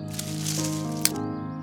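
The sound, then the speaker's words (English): Soft rustling and a single crisp snap of rose stems being picked, brief, over a steady sustained musical tone in the background. “Merchant starts to pick some roses.”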